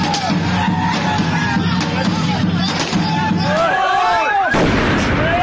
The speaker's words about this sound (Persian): اما در دهه های اخیر هیجان این شادمانی با صدای گاه و بیگاه انفجار ترقه های دستساز و مواد محترقه در کوچه و خیابان ها گره خورده و کام بسیاری از خانواده های ایرانی را تلخ کرده.